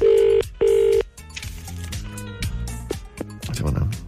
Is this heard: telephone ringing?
yes